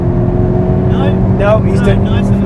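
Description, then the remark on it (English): A car engine roars steadily and loudly throughout as the car is driven around a race circuit at about seven or eight tenths of its limit, its tone holding fairly even, with someone briefly speaking over the noise. “probably at, I don't know, 7th or 8th tenths going around this circuit while we're talking, which is that's about accurate?”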